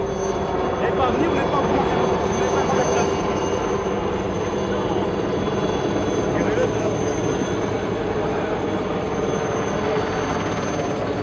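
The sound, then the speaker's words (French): A loud, continuous roar of two helicopters circling over a velodrome as the race leaders enter it, a steady throbbing drone that fills the whole stretch without letting up, with indistinct voices faintly mixed underneath. “Le suspense touche à son paroxysme quand les hommes de tête pénètrent dans le vélodrome sous un vacarme de deux hélicoptères qui tournaient autour de l'enceinte.”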